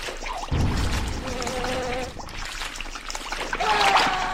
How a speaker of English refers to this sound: Oh, it's a geyser.